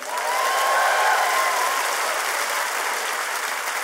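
Steady applause from an audience as Oakland storyteller Don Reed is introduced, a dense, even wash of many hands clapping at full strength throughout, with faint cheering tones early on and no speech.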